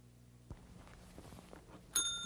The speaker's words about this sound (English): This is the way we let her know somebody's out here to see her. Lovely bell.